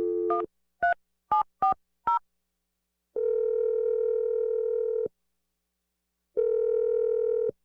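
Five quick touch-tone keypad beeps as a number is dialed, then a steady ringback tone sounding twice in long two-second bursts with a pause between. No voices are heard.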